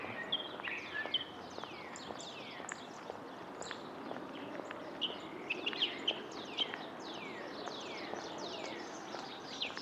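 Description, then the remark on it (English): A busy outdoor chorus of many different birds singing and chirping at once in springtime in Houston, Texas, with overlapping whistles and trills, continuous throughout over a soft background hum, no voices. “I'll let you listen to some birds instead of me.”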